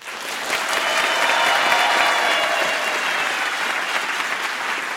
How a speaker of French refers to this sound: Ça fait plaisir d'être accueillie par de chaleureux applaudissements. C'est parfait.